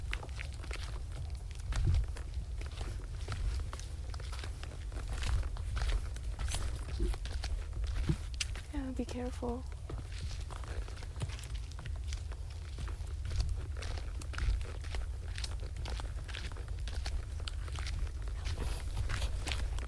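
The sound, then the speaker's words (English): Steady footsteps crunch and rustle through dry leaves, a continuous crackling shuffle over a low rumble, with a brief tonal chirp partway through, from the multi-track sound piece Leaf Leaf Sounds, which remixes a digitized 1969 reel-to-reel recording. “We're listening to Leaf Leaf Sounds.”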